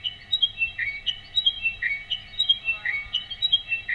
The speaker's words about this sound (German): Über Lautsprecher werden dann weitere Klänge aus dem Wald hinzugemischt. Alles verdichtet sich zu einem akustischen Biotop. Und irgendwann tönt darin auch der echte Wippschnabel.